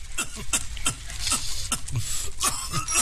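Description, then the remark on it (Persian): A man, a guest smoking a cigarette while sitting on a hotel room balcony, coughs repeatedly: a string of about six rough, raspy bursts spread unevenly over a few seconds, with no talking in between. “مهمانش هم سیگار می کشد و سرفه می کند.”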